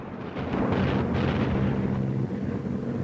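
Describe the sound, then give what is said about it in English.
Deep, rumbling booms roll together into a continuous roar of bombs from Japanese planes exploding on fields and buildings below, with a faint droning hum of aircraft underneath; no voices. “Explosions pepper the fields and buildings below.”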